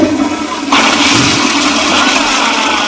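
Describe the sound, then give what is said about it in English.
A toilet flushes: a steady watery hiss suddenly swells into a loud, full rush of water that keeps roaring to the end, with no voices. “But we also had someone say, don't flush it.”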